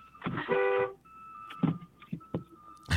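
A single loud, brassy car horn blast lasting about half a second, followed by faint steady tones and a few scattered sharp knocks nearby, with no one speaking.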